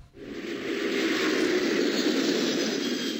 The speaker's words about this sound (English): Two routine flights roar off the runways in Boston, both 767s, their bellies full of fuel, their cabins more empty than filled.